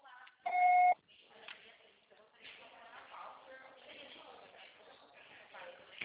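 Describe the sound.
A single loud, steady electronic beep lasting about half a second, a voicemail tone, followed by a woman, a financial consultant, starting to leave a message over a thin, band-limited phone line.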